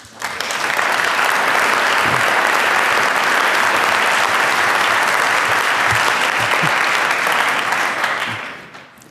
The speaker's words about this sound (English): Please welcome him with a very warm applause.